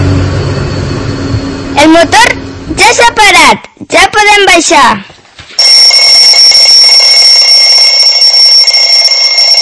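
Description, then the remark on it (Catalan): An alarm clock rings in three loud, warbling electronic bursts, then gives way to a steady high-pitched tone that holds to the end, with a low hum underneath at the start. “Au, aixeca't, ja són les 9 i has d'anar a l'escola.”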